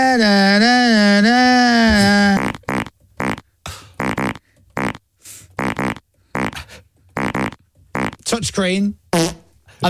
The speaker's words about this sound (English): All right, so then he had to go to the playout screen. Yeah. Okay, and then you need to go for fart number eight. Okay. So it'll go.